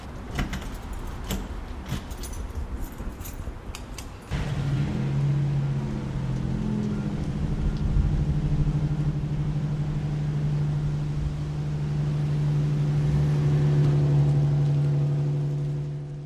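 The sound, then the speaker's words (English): A few seconds of rattling, clinking noise give way to a heavy vehicle's engine, a deep steady rumble that builds slightly as the University of Arkansas Razorback Paratransit bus pulls up and idles, at about 8 o'clock. No one speaks. “Is this bus the university's bus? Yes, the Razorback Paratransit. I think it might be here.”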